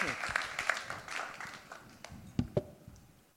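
An audience applauds with a dense patter of many hands clapping, starting fairly strong and gradually thinning out as a few last louder claps ring out near the end.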